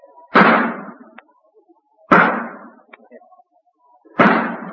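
Three loud, sharp gunshots fire one after another at roughly two-second intervals, each a sudden crack followed by a short ringing decay, with no talking. A sharpshooter fires real bullets at a target.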